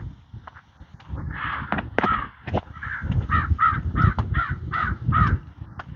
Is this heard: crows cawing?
yes